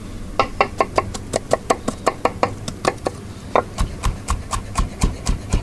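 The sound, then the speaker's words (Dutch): A knife chops an onion steadily on a cutting board, a quick run of crisp, even taps about five per second, pausing briefly midway before resuming at the same brisk pace, with no voices. “Nou, we gaan eerst maar even het uitje snijden.”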